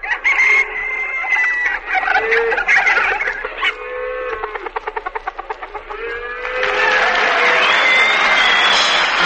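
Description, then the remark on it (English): A hen in a barnyard cackles loudly and excitedly after laying an egg, with a run of sharp clucks breaking into a fast, stuttering burst, followed by a steady wash of noise like applause while the squawks continue. “Well, what a piece of music for an egg laying, huh?”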